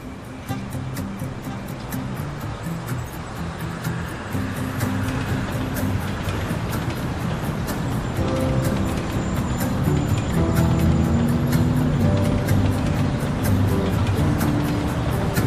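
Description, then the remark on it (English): Steady engine rumble and road noise fill the interior of a moving, crowded city bus, with faint rattles and clicks and a low murmur of passengers, growing slightly louder toward the end. “Lot of people today. Bus is going to be full. Have to hang on a strap in the back.”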